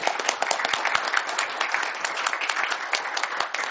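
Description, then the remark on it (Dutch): A crowd of people claps steadily after a newly sworn-in committee member accepts his appointment, a dense, even patter of many hands with no pauses, moderately loud throughout. “We mogen klappen over.”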